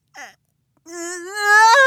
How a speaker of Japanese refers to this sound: え？なんで泣いてるのかって？辛いことがあったら、相談に乗る？ありがとう。あのね、花粉症が辛いんだよ。何なんだろう、本当に毎年毎年もう鼻水も涙も止まらなく。